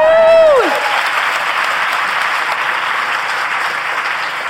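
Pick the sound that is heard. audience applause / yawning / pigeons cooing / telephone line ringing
audience applause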